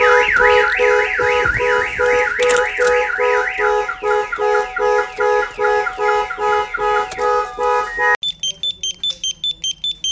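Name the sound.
car alarm sounding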